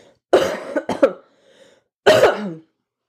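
A loud cluster of coughs: two sharp bursts in quick succession, a brief pause with a faint throaty rasp, then one more hacking cough.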